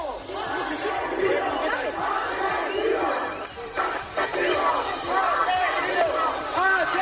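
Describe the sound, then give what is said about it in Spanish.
A large angry crowd shouts at the king's visiting entourage, which included Pedro Sánchez and Carlos Mazón, while mud or stones are thrown. Many overlapping raised voices form a loud, dense roar with sharp individual cries rising above it throughout. “Ya han escuchado estos gritos.”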